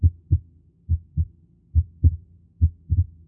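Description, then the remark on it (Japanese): Heart sounds of pulmonary stenosis heard at an auscultation point: low, paired thumps of the first and second heart sounds, with a split second sound, repeating steadily about four times, with a faint, rough early murmur filling the gaps between beats. No voices. “21番目の聴診のポイントは、肺動脈狭窄の音です。”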